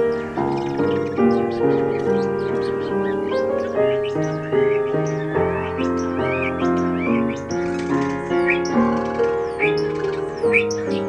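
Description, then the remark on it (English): Captive hand-reared birds at a home near Bristol chirp and whistle in quick bursts, joining in with steadily playing instrumental music when its pitch is slightly changed, their calls scattered throughout and sitting just above the melody at moderate volume. “And that's when they tend to sort of come in and join in.”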